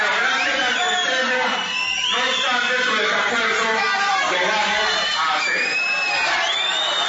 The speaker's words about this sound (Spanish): El presidente del Consejo de Bogotá, Horacio José Serpa, tuvo que levantar la sesión ante los gritos e insultos de algunos miembros del sindicato de la ETV al alcalde de Bogotá.